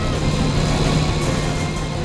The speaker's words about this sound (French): Il faut aller plus vite. Impossible. La voiture donne son maximum.